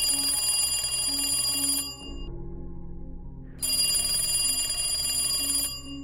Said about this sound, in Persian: صدای اون تلفن قدیمی بود.